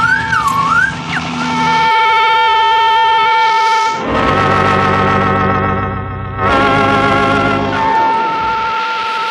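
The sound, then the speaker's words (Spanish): A loud, harsh buzzing radio signal, made by rapidly switching a radio's button open and closed, drones steadily with a whistling, wavering tone on top, cutting out briefly twice before resuming. No voices are heard. “Lo mueve con rapidez, abriéndolo y cerrándolo, para dejar escapar una especie de zumbido que llega a su destino.”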